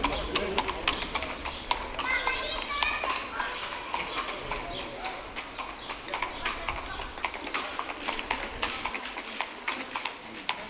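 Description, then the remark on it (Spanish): Heavy hooves of Percheron draft horses clip-clop in a steady, even rhythm on a hard surface as they pull a cart with rubber wheels loaded with many soda siphons for bars, with indistinct voices murmuring in the background. “Caballos percherón que no existe ya. Eso yo no sé dónde están, pero eran algo demenciales y llevaban un carro con ruedas, yo de metálicas no las conozco, con ruedas de goma, pero llevaba, ese señor llevaban muchos sifones, los sifones para los bares,”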